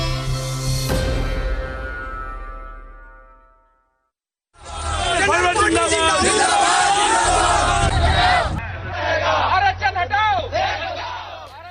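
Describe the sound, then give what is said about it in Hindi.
A resonant musical chord rings out and slowly fades, then after a short pause a loud protest crowd erupts during a Bharat Bandh (nationwide shutdown) in India, many voices shouting and chanting slogans together in rising, overlapping calls. “नारेबाजी, प्रदर्शन और आगजनी, ये सब कुछ दिखा 8 दिन पहले हुए बंद की प्रतिक्रिया में आज बुलाए गए भारत बंद के दौरान।”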